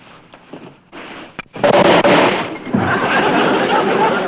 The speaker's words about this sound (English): Oh, one of the boys dropped a flashbulb. Did it startle you?